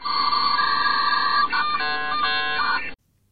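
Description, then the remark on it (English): A dial-up modem connecting: a steady, harsh electronic tone gives way to warbling, shifting beeps and hissy screeches for about three seconds, loud and alone, then cuts off abruptly. “If you recognise this sound, then you really need to upgrade to broadband.”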